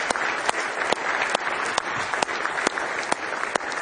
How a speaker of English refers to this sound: Somebody say praise the Lord. Let's give the Lord one more hand clap of praise tonight if you love him.